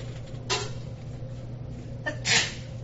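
Two sneezes with a pause between them, the first short and sharp, the second louder and breathier, over a steady low hum with no talking.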